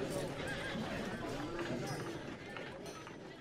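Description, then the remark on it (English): Horses whinny over a steady clatter of hooves as twenty men ride together on light, active horses over the hills by moonlight, a busy, continuous din with indistinct voices mixed into the noise. “Stout and bold men, mounted upon light and active horses.”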